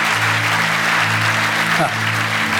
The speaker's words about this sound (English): Well, yeah, give the Lord a great praise offering, clap offering. Thank you, Lord Jesus.